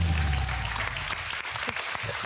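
A crowd claps steadily, with a dense, even wash of many hands sustained throughout, loud and continuous, with a low rumble fading out at the start.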